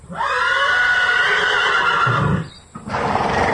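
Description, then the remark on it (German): A horse neighs loudly, a long shrill whinny with a quavering, descending pitch, followed by a brief pause and a shorter, breathy snort-like call. “Lass uns mal rüber zu den Pferden gehen.”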